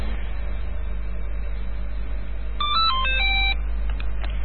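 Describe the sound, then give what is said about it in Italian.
A phone rings during a Radio Cybernet broadcast with a short, melodic electronic ringtone of rapid beeping tones, heard over a steady low rumble of background noise with no one speaking. “Ah, molto bene, quindi era il telefono.”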